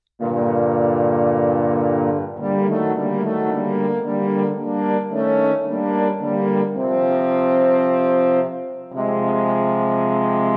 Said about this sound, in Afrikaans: Horingklanke kom hy dreigend. Dis die groot grys wolf. O, hygend.